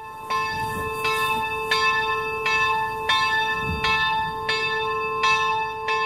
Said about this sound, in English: For nearly 300 years, this bell has been calling Catholics to the pilgrimage church of St. John of Nepomuk.